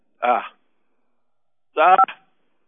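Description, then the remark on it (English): Two brief, thin bursts over a telephone line, separated by silence: a caller nearly hanging up a phone handset, with a short clatter and a few quick keypad beeps in the second burst. “Well, you were so upset there that you almost hung up the phone again.”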